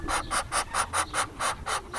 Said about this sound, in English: Well, actually, the male Muscovies, they're quackless. So all they have is that hiss. That's the only sound he will ever make as an adult.